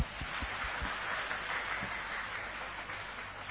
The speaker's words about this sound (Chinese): 啱啱我都想你 release 出嚟，不过我哋为到佢喺后面呢沉沉默默嘅，我哋多谢主俾啲掌声佢。